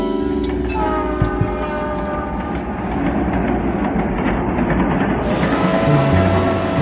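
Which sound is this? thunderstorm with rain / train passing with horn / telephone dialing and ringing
train passing with horn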